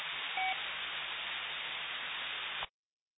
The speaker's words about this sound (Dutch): Ik denk degene die iedere keer een carrier eroverheen zet, misschien komt hij ook nog met een call, maar niet dus.